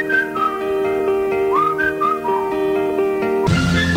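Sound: whistled melody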